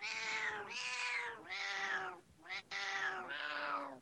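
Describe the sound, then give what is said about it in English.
A recording of a cat meowing repeatedly in long, strained, wheezy cries, about five drawn-out yowls in close succession, loud, with a raspy breathiness running through each one and no talking. “How about Asthma Kitty?”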